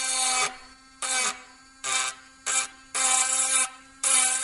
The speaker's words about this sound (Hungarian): Pörög ez egy gyémánt fej, amivel az üveget tudjuk csiszolni, és akkor ahogy hozzáérintem.